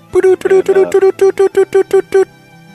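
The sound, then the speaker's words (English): A quick, even run of about nine or ten short, mid-pitched Morse code beeps, loud and buzzy, ending abruptly and followed by a faint low hum. “That's Morse code for sad.”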